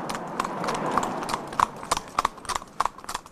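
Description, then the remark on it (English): Horse hooves clip-clop steadily on a hard country road, a brisk, even rhythm of sharp knocks over a soft background hiss, moderately loud. “putting bans on the horses and new regulations on the horses”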